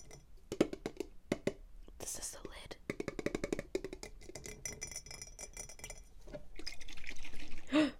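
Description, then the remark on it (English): Brine gurgles and bubbles up inside a pickle jar in short wet pops and trickles while a person whispers quietly over it. “Oh my god, it bubbles up.”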